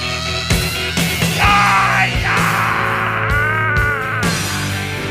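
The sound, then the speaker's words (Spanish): A rock singer lets out a long, high, raspy scream over loud distorted guitars and pounding drums, the wail held for several seconds inside the full band mix, in a song played on the radio. “Ahora viene el grito.”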